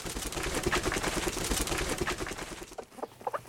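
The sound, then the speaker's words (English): A hen beats her wings in a loud, rapid flurry of rustling flaps for a few seconds, then lets out a short series of clucks as the flapping stops. “She flaps her wings loud and fast, but she can't fly.”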